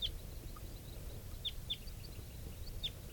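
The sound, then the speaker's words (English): A bird gives short, sharp, high-pitched alarm calls at a hawk, four or five spaced irregularly over a few seconds, against a steady low rumble of outdoor background noise. “There's a hawk here, and this is bird 395 giving alarm calls.”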